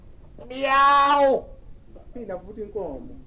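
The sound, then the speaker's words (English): A person imitates a cat with one loud, drawn-out meow, then a short stretch of quieter talking follows. “And the cow looked up and said, "Meow!"”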